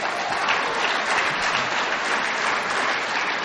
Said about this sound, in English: But you can only clap for half of that.